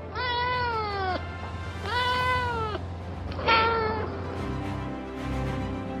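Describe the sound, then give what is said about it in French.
A small French female cat with black-and-white striped fur meows three times in a row, drawn-out, plaintive calls with short pauses between them and a faint background hum. No one speaks. “À son bord, il y a un félin astronaute, une petite chatte française au pelage rayé noir et blanc.”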